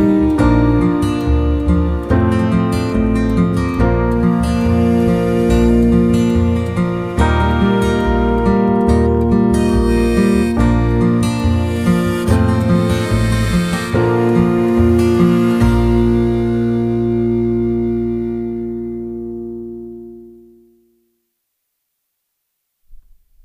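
A recorded song plays its closing bars with steady, full instrumentation, then settles on a final sustained chord that rings out and fades into silence. No one speaks.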